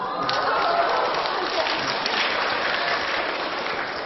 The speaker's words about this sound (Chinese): 好，给他们掌声。